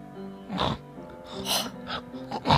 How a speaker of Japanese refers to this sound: はや、もう寝たの。え、いびきかいてんの。